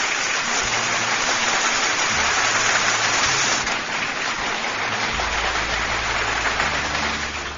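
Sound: applause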